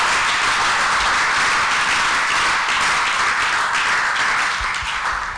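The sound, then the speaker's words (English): A crowd claps steadily for several seconds, a dense, even wash of many hands applauding at a fairly loud, constant level with no voices on top. “Oh, somebody should be clapping.”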